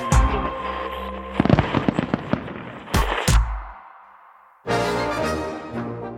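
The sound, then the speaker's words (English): Fourth of July fireworks in the night sky in the United States explode in a rapid series of loud bangs and crackles, with two sharp booms near the middle, a fading rumble, then another burst of crackling blasts. “Each 4th of July, as fireworks light up the night sky and red, white, and blue flags fly overhead, Americans scarf down hot dogs, 150 million of them to be exact.”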